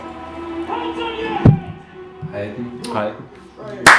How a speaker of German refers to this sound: Da gibt es einen Slow-Clap. Da kann man ruhig mal klatschen.